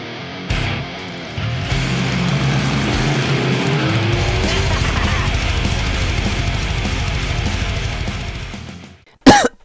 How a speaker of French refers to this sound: Comment ça, je vous ai toussé à la face, mais pas du tout! Le Global Metal Warming est là pour vous ce soir, et je peux tousser et cracher, parce que jamais vous ne recevrez mes postillons, imprégnés sans doute de substances mauvaises